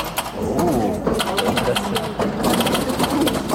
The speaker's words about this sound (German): In der evangelischen Michaeliskirche in Erfurt steht gerade ein echter Flipper. Und der funktioniert. Man kann kleine Münzen reinwerfen und losflippern. Eine Jugendgruppe war bei ihrer Erfurt-Tour auch in der Michaeliskirche und hat sofort losgelegt.